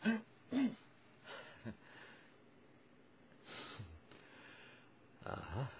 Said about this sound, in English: And I don't have a cough switch. Excuse me a moment here.